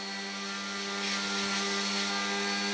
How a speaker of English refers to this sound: Give us a minute, because somebody is sanding.